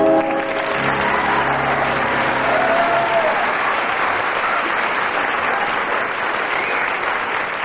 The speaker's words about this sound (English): I shall be marking according to audience applause.